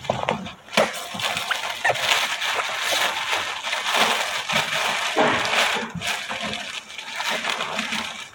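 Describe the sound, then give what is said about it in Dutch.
Crinkly plastic wrapping is handled and pulled open, a steady stream of crackling rustles with sharper snaps now and then, going on without pause and with no voices. “Ik moest hem inpakken, want anders viel hij uit elkaar. Dus het is niet vanwege het plastic, maar anders dan wilde ik niet.”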